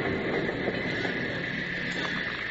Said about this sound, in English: It was 4 days later when the train from St. Louis arrived at the Eagle's Nest station. Bill, Jingles, and Packer watched it come to stop, but stayed out of sight.